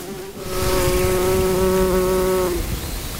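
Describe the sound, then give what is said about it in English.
A white-tailed bumblebee buzz-pollinating a flower, vibrating its anthers to release the pollen: a steady, fairly high-pitched buzz holds for about two seconds, then cuts off abruptly, over a faint outdoor background. “That what it's doing there is it's vibrating the anthers of the flower in order to release the pollen, and some flowers keep their pollen in these anthers that can only be released by bumblebees.”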